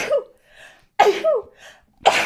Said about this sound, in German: Gesundheit.